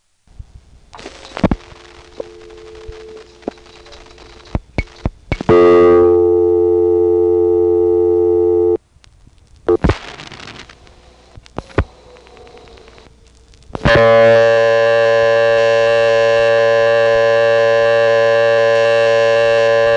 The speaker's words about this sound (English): And then you dial a zero. It'll then beep one, two, or three times. Here's a call to 715, and I'll be speeding up and slowing my dial in order to get it to do all its beeps. Two beeps means your dial is right on speed.